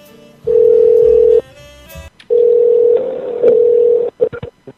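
A phone call to a Shell station in San Jose, California, rings on the line: two long, steady electronic ringback tones separated by a short pause, loud, ending in a few quick clipped beeps. No one speaks.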